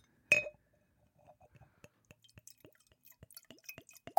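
A single sharp glass clink rings out, then water is poured into the glass as ASMR on a comedy show, with a run of small bubbly plops and glugs, each rising in pitch, growing busier and louder toward the end.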